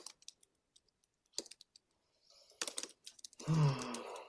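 Irregular clacking of computer keyboard keys, fairly quiet, with scattered single taps speeding into quicker bursts, then a short low moaning sound near the end.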